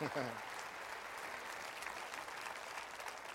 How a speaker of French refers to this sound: Est-ce qu'on peut applaudir l'Éternel, pas l'Internet?